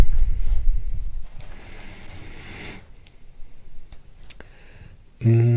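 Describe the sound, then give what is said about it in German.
Pages rustle as a book is flipped through to a random spot to read a short paragraph, a papery swishing burst in the middle followed by a few soft clicks and taps; a voice starts speaking at the very end. “Wir blättern jetzt mal irgendwo rein und werden einen kleinen Absatz lesen.”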